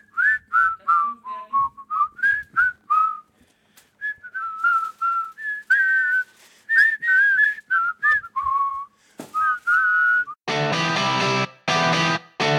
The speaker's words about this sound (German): Was darf man niemals machen hinter der Bühne? Pfeifen!